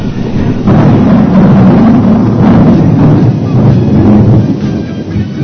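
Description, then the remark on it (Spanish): A loud, continuous storm roars with gusting wind and churning, crashing water, a dense rumble that swells and holds steady for several seconds with no voices. “Con la terrible tormenta, Jonás se despertó.”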